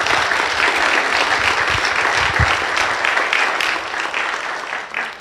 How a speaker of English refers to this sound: it's great that you clapped, but a standing ovation would have been better.